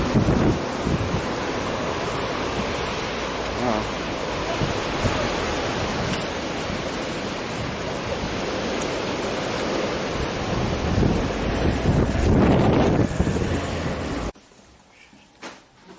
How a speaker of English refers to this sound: We've been having rain and wind for almost 2 weeks now. Look at it.